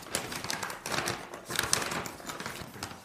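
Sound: rummaging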